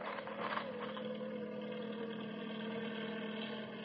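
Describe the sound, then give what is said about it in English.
A helicopter's engine drones steadily right overhead, a dense, even mechanical hum with a low throbbing undertone that holds at a constant loudness throughout, with no voices. “Well, those helicopter boys are really on the ball.”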